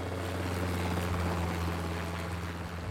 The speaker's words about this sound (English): It's so luxury, in fact, that arriving by helicopter is not unusual